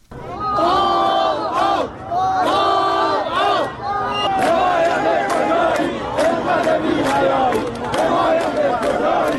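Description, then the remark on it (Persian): Hundreds of protesters gathered in front of the Chaharmahal and Bakhtiari governorate in Shahrekord, Iran, over a days-long water shortage chant slogans in unison, including "Death to Raisi", loud rhythmic bursts of many voices repeating phrases, with shouting rising and falling over a steady roar of people throughout. “مردم معترض در شهر کرد در مقابل استانداری چهارمحال بختیاری تجمع کردند و از جمله شعار مرگ بر رئیسی سر دادند.”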